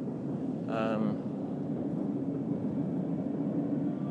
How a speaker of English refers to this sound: It sounds like the trains are running above us.